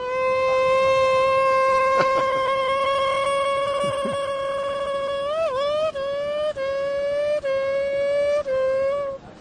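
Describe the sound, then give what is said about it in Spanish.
A voice imitates a Formula 1 race start: a sustained, buzzing engine-like hum held at a steady pitch, then a quick upward sweep and a series of short breaks like gear changes. “Para todos los seguidores de la Vuelta a España, yo chistes no sé muchos y bueno, pues me toca hacer el Fórmula 1, ¿no? Y es esto es la salida de la Fórmula 1.”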